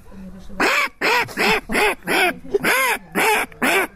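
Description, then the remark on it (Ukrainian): A person imitates a mother duck's quacking, giving eight loud, nasal quacks in a steady rhythm with brief pauses between each call. “А мама утка.”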